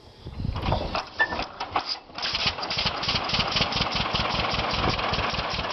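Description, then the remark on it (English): An old tractor engine putt-putts steadily, its rapid, regular chugging pulses loud and continuous after a brief uneven start and a momentary dip. “It's the, you know, the putt-putt, the Johnny Popper, the whatever you want to call it. It's an iconic sound, so that's kind of part of the package that you want to present.”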